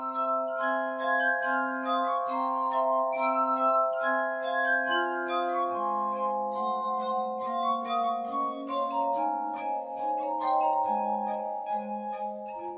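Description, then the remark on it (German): Glass music plays alone: sustained, ringing tones from rubbed glass, layering into slow, overlapping chords with a shimmering, bell-like quality and steady loudness throughout. “Und ja, bis die ersten Anrufer hier drin sind, spielen wir Musik von, ja, Glasmusik.”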